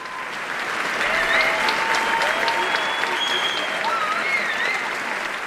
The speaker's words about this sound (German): Erst sind es nur wenige, dann immer mehr und irgendwann stehen und klatschen sie alle. Nur wenige Momente vorher war es noch still im großen Festsaal der Rudolf-Steiner-Schule in Bochum.